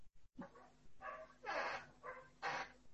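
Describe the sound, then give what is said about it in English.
A dog barks about five times in quick, slightly uneven succession, each bark clear and moderately loud over a low steady background hum, with no one speaking. “Now probably you can hear the barking sound of a dog.”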